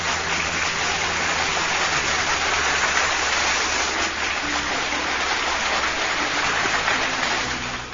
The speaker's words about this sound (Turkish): Sana da kocaman bir alkış gelsin.